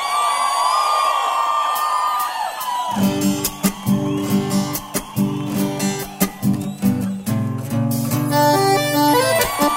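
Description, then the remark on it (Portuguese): A live crowd at a sertanejo music show cheers and whoops loudly for a few seconds before a band starts playing, and the shouting carries on faintly beneath the music. “Cadê o grito dos cachaceiros de plantão?”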